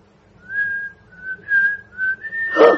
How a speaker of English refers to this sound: Don't you get it, anybody? Let me whistle it to you.